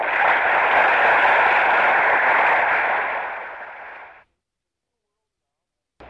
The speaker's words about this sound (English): I'm still on the horse, huh? Yes. Listen to the applause.